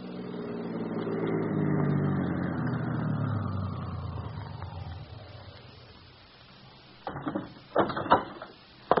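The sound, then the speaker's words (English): A car engine winds down as the vehicle slows and stops in front of a rooming house, its hum fading out, followed by a few sharp clunks and rattles. “Eddy, stops his car in front of a rooming house.”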